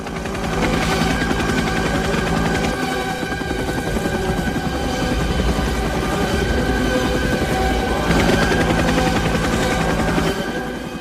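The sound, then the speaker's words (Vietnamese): A loud, dense roar of a squadron of helicopters setting out, with rapid rhythmic rotor chopping and bursts of gunfire, continuous throughout with a brief surge near the end; no one speaks. From the film Apocalypse Now, directed by Francis Ford Coppola. “Cường độ mạnh, nhịp điệu dồn dập, lớp tiếp lớp, đập vào mắt chúng ta là quang cảnh xuất quân rầm rộ của phi đội máy bay trực thăng trong Apocalypse Now, đạo diễn Francis Ford Coppola.”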